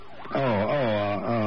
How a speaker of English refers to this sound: Sounds like the ambulance now.